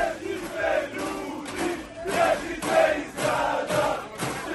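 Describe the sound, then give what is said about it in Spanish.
A large crowd of Croatian football fans chants in unison in the streets of Berlin during the Euro championship, loud rhythmic waves of voices rising and falling about once a second, with no single speaker standing out. “Así suena la afición croata por las calles de Berlín.”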